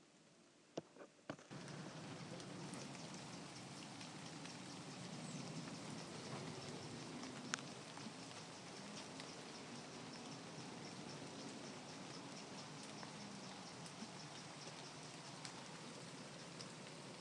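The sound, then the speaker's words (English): Steady rain falls straight down with no wind on Thursday, 20 September, in an even, dense hiss, with scattered drops ticking through it. It starts after a few brief clicks and holds without gusts or wind noise. “Straight down, rain, no wind.”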